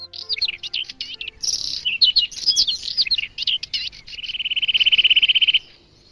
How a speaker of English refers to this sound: Birds.